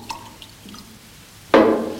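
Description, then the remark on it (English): A few faint drips, then water suddenly pours in a steady, splashing stream from a full blue container into an empty green one, fairly loud, continuing to the end. “Okay, so we'll pour a little bit more.”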